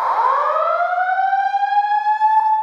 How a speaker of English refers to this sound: At 8:45 Wednesday night, senators evacuate the chamber before the all clear is sounded. After the room is empty, the alarm continues to blare for 14 minutes.